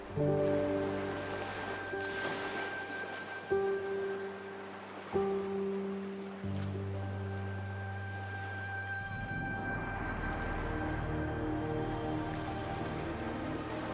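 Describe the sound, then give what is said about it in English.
Soft ocean waves wash steadily beneath sustained, droning musical tones, the surf swelling fuller toward the end; continuous and moderately quiet, with no voices. “Allow the sounds of the ocean to wash over you, bringing you closer to the infinite source of energy within you.”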